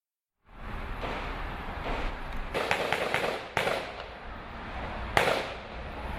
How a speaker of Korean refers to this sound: 참극이 일어난 술집에서 총소리가 계속됩니다. 출동한 경찰관과 현장에 있던 용의자가 벌이는 총격전입니다.